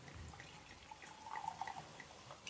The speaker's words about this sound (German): Und er hat einen Wahnsinnswein, der heißt Funky Punky Pinot Noir Rosé 2022. Funky Punky ist wirklich Funky Punky. Funky Punky. Geil. Ich schenke das jetzt mal hier in das Glas ein.